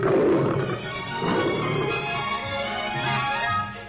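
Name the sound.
lions growling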